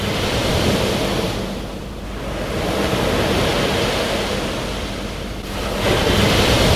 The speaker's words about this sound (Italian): ed è da questa posizione privilegiata che cominceremo a confrontarci con la realtà della Tanzania, quando, dopo una bella dormita, le onde dell'oceano ci danno il nostro primo risveglio in Africa.